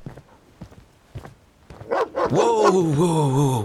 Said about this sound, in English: A pack of wolfhounds greeted him with ferocious barks and snarls, chained to the ship's mast. These hounds were enormous, reaching up to Patrick's chest.